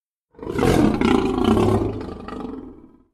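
A single loud, deep lion roar swells up quickly, holds for a couple of seconds with a rough, growling texture, then fades out. No voices are heard.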